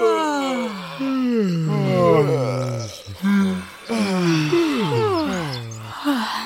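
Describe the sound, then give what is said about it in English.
Several overlapping voices of mice gathered in a soft meadow behind a garden shed let out a chorus of long, drawn-out yawns, each sliding downward in pitch, one after another over about six seconds, soft with no talking. “The mice did as Nicholas said, and soon everyone crowded into the meadow, sighing a quiet chorus of yawns.”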